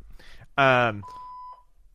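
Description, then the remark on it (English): A loud voiced sound is followed by a steady electronic phone beep that holds for under a second, then a brief second blip. Speech murmurs faintly around it. “Oh, ghost phone. Ghost phone.”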